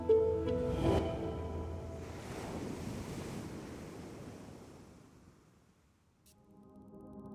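Ocean waves surge and break in a broad, hissing rush that swells, lingers, then recedes into quiet before the sea murmurs back, with a low steady tone humming beneath.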